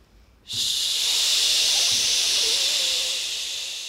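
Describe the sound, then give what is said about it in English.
A choir doing a breathing warm-up lets out a long, steady "shh" hiss that starts abruptly and holds for several seconds, fading slightly toward the end, with no talking. “And then pull the air back in here again and we'll do shh this time.”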